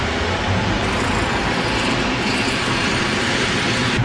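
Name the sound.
car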